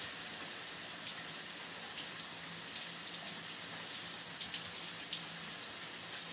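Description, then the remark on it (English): Steady hiss of running shower water pours continuously, with faint splashes and spatters breaking through as someone rinses their face under the spray. No one speaks. “Alright, shower sound is leaving in 3, 2, One.”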